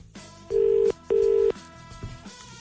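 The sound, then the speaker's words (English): A telephone ringback tone on an outgoing call made during a Today FM radio show: one loud, steady double ring of two short buzzing pulses over a faint background bed, with no one speaking. “It's ringing. Who are we calling?”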